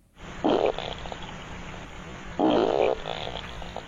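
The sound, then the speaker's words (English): A beaver at the water's edge, captured by a trail camera, lets out two loud, low, raspy farts, the second one longer, separated by a couple of seconds of steady rushing background noise. “Yeah, that's right, the old double fart from the beaver.”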